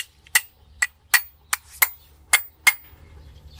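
A hammer taps sharply about seven times at an uneven, steady pace, each strike a crisp knock with a quick decay, with no voices and a faint low hum underneath.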